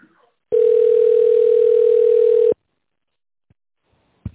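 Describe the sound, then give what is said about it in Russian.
A single steady telephone ringing tone while waiting for an operator after the automated greeting of the company Baytek Machinery, a flat mid-pitched beep lasting about two seconds, followed by silence and a couple of faint clicks. No one speaks. “Если вы знаете внутренний номер сотрудника, наберите его в тоновом режиме или дождитесь ответа оператора.”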